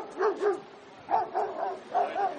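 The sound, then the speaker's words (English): A dog barks repeatedly in short pairs of sharp, mid-pitched yaps, moderately loud, with no one speaking. “But first, we report about special training for special dogs.”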